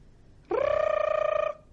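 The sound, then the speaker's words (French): A single electronic telephone ring, a steady buzzing tone about a second long with a fast warble, swooping up at the start and cutting off cleanly, loud with no voices. “Encore le téléphone?”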